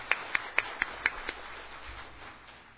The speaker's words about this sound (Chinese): 右手边有没有？左手边有没有？好，我们鼓掌欢迎刚才来的弟兄姐妹跟朋友。